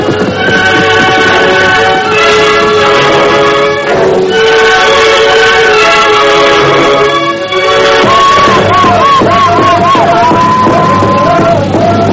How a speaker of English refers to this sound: Hundreds of painted Indians danced about a great tribal fire. Drums throbbed in the darkness. The wail of the women was pierced with the boastful shouts of the warriors as they proclaimed their prowess in war dance ritual.